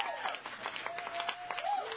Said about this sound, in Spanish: Muchas gracias. Un doble aplauso para León Guanajuato.